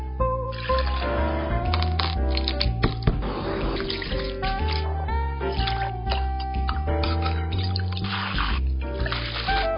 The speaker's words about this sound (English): And he has lots of different equipment and lots of different stuff, and he puts them all together and he makes the perfect drink. So I want you to watch this and see the drink, how the drink is made.